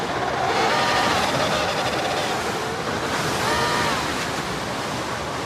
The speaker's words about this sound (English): A biting wind lashes out at the colony, piercing its way through their tight huddle.